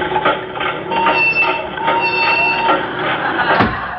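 A dehydrator machine starting up and running loudly, a dense, steady mechanical rattle and rumble with high whining tones, continuous for a few seconds, with a sharp clank near the end.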